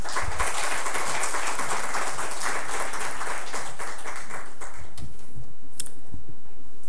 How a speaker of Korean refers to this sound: 우리 선교사님 나오실 때 다시 한번 박수로 환영하겠습니다.